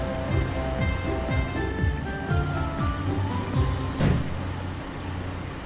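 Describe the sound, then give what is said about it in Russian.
A toy crane's motor whirs steadily as it lifts a section of track at a construction site, broken by a series of small clicks and ratcheting sweeps, then a louder plastic clack as the track piece is set in place, fairly loud. “Подъемный кран поднимает часть трассы и ставит ее на место.”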